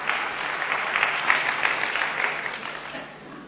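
An audience claps steadily, a dense wash of many hands at a fairly even level throughout, easing off slightly toward the end.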